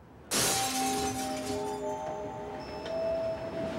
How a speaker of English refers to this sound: the next thing we know from Lashbrook is that he was awakened by the sound of crashing glass.